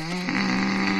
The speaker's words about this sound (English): That's just the engine powering up. That's just the engine struggling.